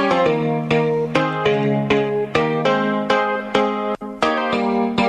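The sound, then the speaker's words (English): A Zambian song plays, bright plucked or struck notes ringing out in a steady, lively rhythm with layered harmonic tones, loud, with no voices heard. “Music from Zambia.”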